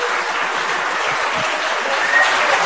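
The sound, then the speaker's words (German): An audience claps and slaps at mosquitoes, a steady, dense patter of many hands that holds at an even loudness throughout, with no voices. “Dazu wirst du hier, ja, bete und erschlage die Gelsen. Ja. Ihr dürft zurück, da, gegen dieses Klatschen ist gar nichts einzuwenden.”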